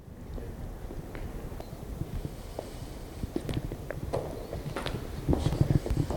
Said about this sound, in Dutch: want we lopen nu naar boven.